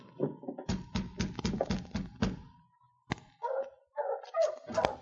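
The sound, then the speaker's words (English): A rapid run of hollow knocks or thumps gives way to a few short, sharp dog barks, with brief pauses between them and no talking. “The dog stays outside.”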